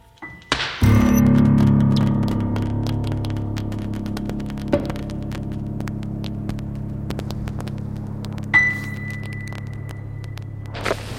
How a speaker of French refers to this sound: Alors là, on est devant le tas de collecte. Donc c'est ce que les camions qui passent devant les habitations ramassent dans les bacs jaunes et donc viennent vider ici.